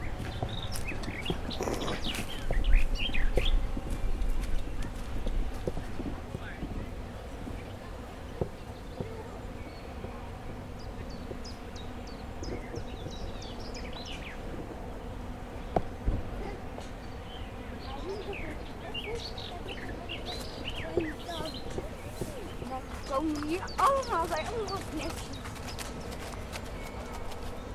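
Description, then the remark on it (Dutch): Steady footsteps crunch over freshly laid wood chips at a walking pace, while birds chirp intermittently over a constant outdoor hum from a very large wind turbine, with insect-like buzzing. “Het Wilgenportaal, dat is een stukje lopen. En dat is over vers gelegde houtsnippers.”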